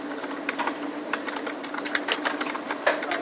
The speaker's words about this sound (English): So now I'm typing the address in. Well, the first thing I have to put is the host.